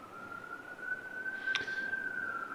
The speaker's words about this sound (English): I hear those sirens, so you should not have broken the story.